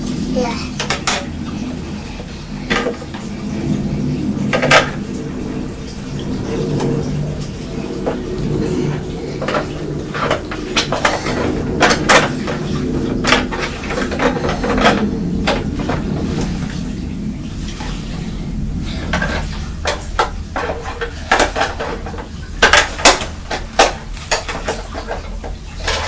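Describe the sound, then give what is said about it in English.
Items are being put into a fridge: clinks, knocks and rattles of containers and dishes being set down and shifted, in irregular bursts over a low steady hum. “You want to put them in the fridge there?”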